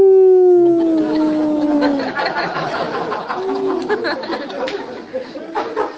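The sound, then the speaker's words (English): A man imitates a coyote with a long, wavering howl that slides downward, then gives a shorter second howl, while an audience chatters and laughs in the background. “And they become like coyotes.”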